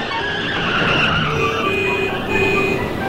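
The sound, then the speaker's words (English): Steady, fairly loud roar of road traffic, with car engines droning and a whining, squeal-like tone riding over the rumble for the whole stretch. No one speaks. “Boy, what is it with all this traffic?”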